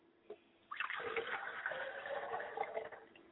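After a brief quiet moment, water begins pouring in a steady, splashing stream that runs for about three seconds at a fairly even, moderate loudness: water poured onto the ground as a libation. No one speaks.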